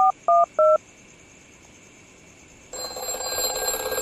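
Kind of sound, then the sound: signal or alarm, telephone call being dialed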